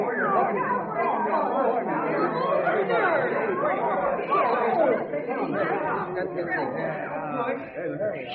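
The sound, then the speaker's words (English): A thick wall of overlapping voices, many people talking at once in a steady, loud babble with no single speaker standing out, continuous for the whole stretch. “Oh, we'll never be able to push through this crowd.”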